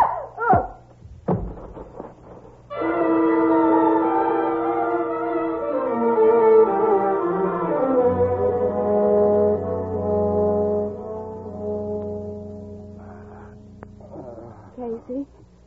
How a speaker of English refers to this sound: That foghorn gives me the creeps